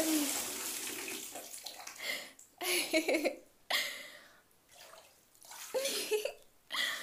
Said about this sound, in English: Oh my goodness, I can't believe you're making me get in this bubble bath. Yeah, the water is nice.